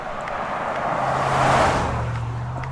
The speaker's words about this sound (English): It's not good timing as well, in the middle of nowhere with trucks speeding by as well.